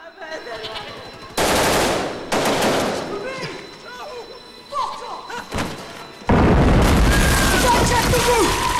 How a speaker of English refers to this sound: People are crouching in fear, dodging bullets, injured. Brickwork is exposed, doors and windows blown away. He sees Patrick with his machine gun shooting and ducks behind a piece of wall.